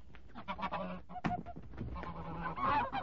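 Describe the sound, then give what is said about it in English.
A goose honks repeatedly in loud, harsh bursts as it is caught and made to swallow a stone, with a sharp flurry partway through like flapping wings as it struggles, and a rising squawk toward the end. “They'd never think of looking inside a goose.”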